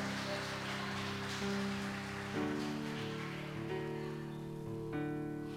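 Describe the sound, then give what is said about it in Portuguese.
An audience applauding to the Lord in a dense, steady wash of clapping, with sustained keyboard chords holding underneath and no one speaking. “Você pode dar um glória a Deus e aplaudir ao Senhor.”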